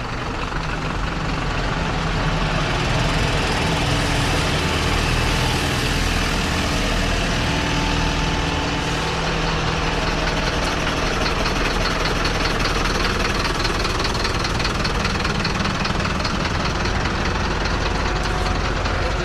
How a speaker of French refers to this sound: Devant cet entrepôt de Nocibé, on voit des camions qui arrivent, j'imagine, pour amener de la marchandise ou bien pour aller en distribuer.